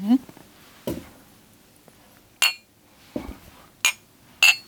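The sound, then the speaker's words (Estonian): Glasses clink together in a toast: three bright, ringing chinks spaced a second or so apart, mixed with a couple of duller knocks and low murmuring voices. “Mul on siin klõgi. Cheers.”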